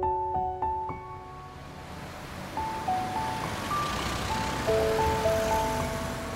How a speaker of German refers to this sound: Freitagabend. An der vielbefahrenen Karl-Marx-Straße in Berlin-Neukölln stehen die Autos in langen Schlangen. Auf den Gehwegen drängeln sich Passanten.